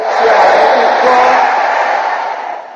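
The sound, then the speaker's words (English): An audience shouts amen together in a loud, sustained roar of many voices that holds for a couple of seconds before tapering off. “Is there anybody here who wants to live an extraordinary life? Let me hear you shouting amen.”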